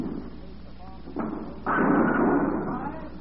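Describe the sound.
A bowling ball rumbles down the lane and crashes into the pins, setting off a sustained, fairly loud clattering roar, with faint voices in the background.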